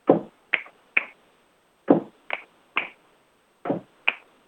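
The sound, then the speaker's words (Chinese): Finger snaps as body percussion in a repeating pattern of three sharp, crisp clicks: a low thumping first beat followed by two brighter snaps, with the group repeated three times. No voices. “比如说哦，我会打响指，那你就去打响指。”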